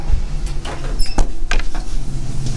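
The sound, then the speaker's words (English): A door opens with a couple of sharp mechanical clicks and a thump over a steady low rumble of background noise. “Opening the door, and here we go.”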